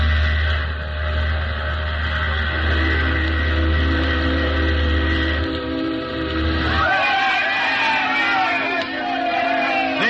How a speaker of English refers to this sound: to speak her first word through a blast of steam raised by heat from the atomic pile in the innards of the ship